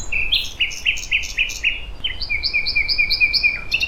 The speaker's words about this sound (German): Ob Berlin wirklich die Hauptstadt der Nachtigallen ist? Man mag das gern glauben, wenn man Dutzende im Frühsommer im Treptower Park singen hört. Und zwar nicht nur nachts.